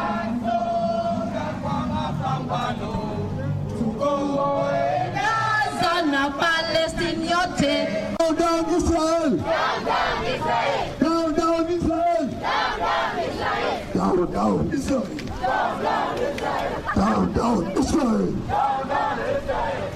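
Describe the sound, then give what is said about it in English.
A large crowd chants and shouts together in loud, rhythmic bursts at a pro-Palestine protest march, the Walk for Palestine, in Mombasa, Kenya, on February 24, 2024. Voices are layered and overlapping, sustained throughout with cheering and rising cries. “Here's more crowd sound from the event.”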